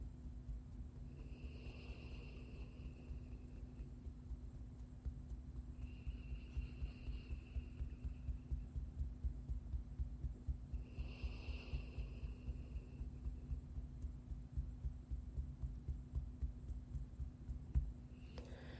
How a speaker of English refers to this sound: And as I see it linking into the heart, I see it linking into like your natural heartbeat, not that anxious heartbeat that kicks up, but the natural heartbeat that's here before it learns the pattern of anxiety.